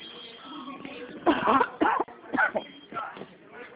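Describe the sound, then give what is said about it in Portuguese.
A person coughs several times in a row, four or so harsh bursts at uneven intervals, heard over a thin, muffled phone line with no talking in between. “A tosse não me larga.”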